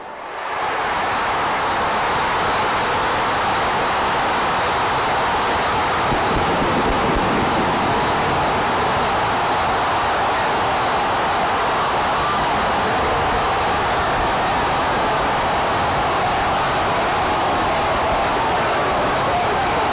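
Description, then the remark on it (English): A stadium crowd roars in a sustained, dense wall of noise that rushes like a freight train as Diggs catches the ball and turns with open field ahead, staying loud and steady for the whole stretch with no clear voices standing out. “It's just that freight train rush as the crowd explodes, right?”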